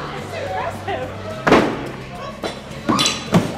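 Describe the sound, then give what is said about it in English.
Thrown axes thud into a wooden target, one hitting a bullseye: a sharp, heavy impact followed by three more solid knocks in irregular succession, over a low murmur of voices. “We better go throw some axes while we still can.”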